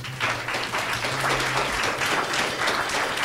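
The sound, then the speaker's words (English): An audience applauds steadily, a dense wash of many hands clapping at once, sustained and fairly loud for a few seconds with no voices standing out, answering a host's question about how many expect George Bush to come out fighting. “How many expect George Bush to come out fighting? Applaud.”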